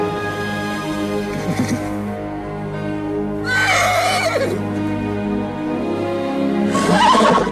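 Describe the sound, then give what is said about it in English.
A horse named Beauty neighs loudly several times at a horse sale, each whinny a rising, shaky call with bright harmonics, over a steady low background hum and no talking. “Hearing the neighing, Joe turns back and scans the horses in the sale.”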